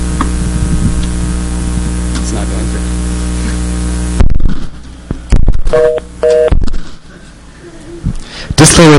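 A steady electrical hum with static gives way to a few short touch-tone beeps of a phone number being dialed to reach an automated line that reads back the caller's number. The beeps are clear amid crackly line noise.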